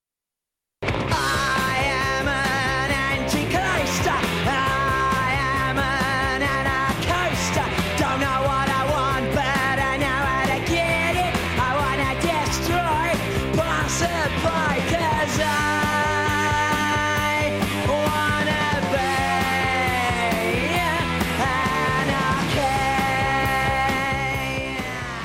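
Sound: punk rock song playing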